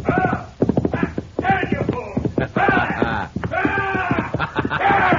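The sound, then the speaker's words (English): Horse hooves gallop in a rapid, steady beat, loud, while excited voices cry out over the pounding. “Now, honey, get off that horse!”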